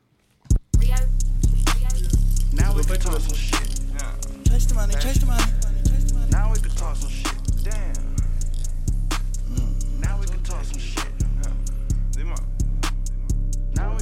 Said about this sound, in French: Et ceux qui n'ont pas vu le clip de ce morceau, c'est une petite folie. Ça dure même pas deux minutes, le morceau. Donc vas-y, on l'envoie.